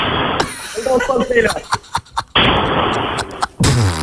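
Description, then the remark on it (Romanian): Glasses smash in three loud, harsh crashes spaced a second or two apart, each bright and shattering, with voices and laughter in the gaps between them. “Știi cum se aude? Zici că aruncă cu chiuvete în cadă, pe bune.”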